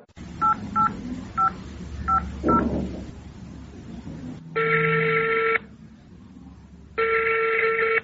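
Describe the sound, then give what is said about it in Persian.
Five quick, evenly spaced touch-tone beeps of a phone being dialed to call the ministry, followed by two long, loud electronic rings separated by a pause, over a low background hum. “تو باش ما وزارت زنگ بزنم که گپ از چی خبر است”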